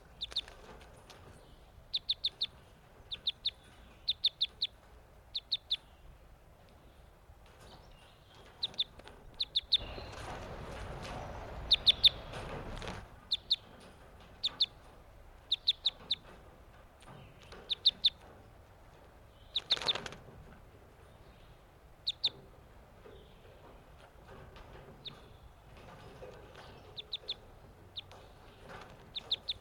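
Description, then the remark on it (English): Sharp, high chip calls of newly caught captive crossbills, caught on May 31st, repeat in irregular bursts throughout, with a loud rustling flurry of wing flapping midway and another short flutter later. No one speaks. “These are the new captives I caught today, May 31st.”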